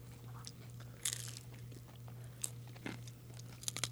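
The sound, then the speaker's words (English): Crunching as someone bites into a crispy flatbread topped with cheese and balsamic vinaigrette, several sharp crackly bursts scattered over a few seconds with quieter chewing between them, over a low steady hum and no talking. “Did you hear that crunch?”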